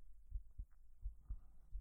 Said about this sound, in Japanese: 腕越しに伝わってるよね。そう、すごくドキドキしてる。できるだけ頑張って隠そうって思ってたけど、さすがに無理あるね。